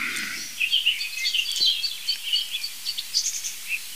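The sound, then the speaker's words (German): Blackbird and song thrush singing together among large old oak trees, a busy run of clear whistles and repeated chirpy phrases that carries on steadily throughout, with no voices. “Aber es ist Amsel-Singdrossel only, würde ich sagen.”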